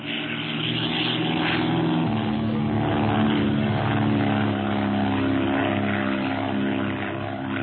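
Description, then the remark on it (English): A propeller airplane with a window being opened roars low overhead, its engine a loud, steady droning buzz with a throbbing pitch for the whole stretch, with no voices. “Perhaps lunatics are flying the plane.”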